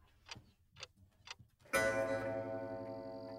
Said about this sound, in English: That's the lab's grandfather clock chiming midnight. But at Menlo Park, that doesn't mean the day is wrapping up.